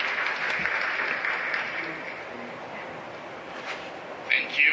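Sustained applause from a committee, a dense, steady patter of many hands clapping for several seconds, gradually thinning slightly before a few louder claps near the end.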